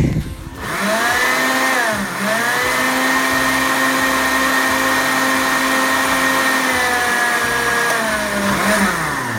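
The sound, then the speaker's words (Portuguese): A blender whirs loudly and steadily as it makes a banana smoothie with ice and nut milk (leite de castanha). Its motor pitch dips briefly as the thick mixture churns, then climbs back to a constant high whine with no talking. “Tem que dissolver o gelo, dissolver a banana, incorporar com o leite de castanha e é pra já!”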